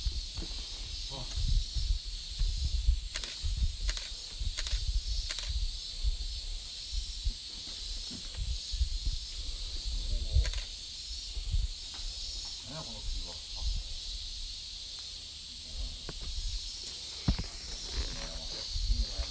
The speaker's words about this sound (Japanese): ちょい休憩しますね。というわけで雨降ってきましたね。